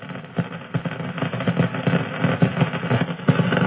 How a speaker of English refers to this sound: And you can tell that we get a lot of hits on our plasma radio detector as we go through ring plane crossing. None of them are dangerous to the spacecraft.